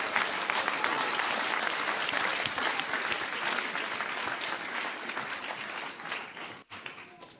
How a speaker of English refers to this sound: Let's give her another big round of applause. Fantastic.